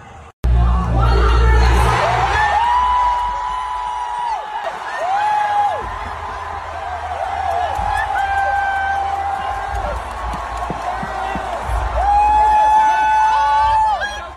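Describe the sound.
A large crowd cheers and shouts continuously, celebrating Austria's first-place win at the Eurovision Song Contest: a dense roar of many voices with high whoops and sustained yells rising over it, loud throughout with a few surging peaks.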